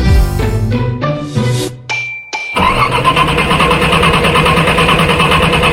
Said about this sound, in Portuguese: Dificuldade pra ligar o carro. E demora para ligar o motor? São alguns dos sinais de que está na hora de passar na Alfa Pneus e Baterias.